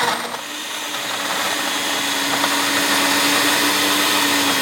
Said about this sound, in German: schüttet Eis, Erdbeeren, Zucker, Wodka, Zitronensaft in den Mixer. Das wird so mal ein wenig lauter.